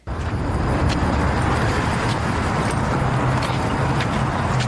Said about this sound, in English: The bus is coming.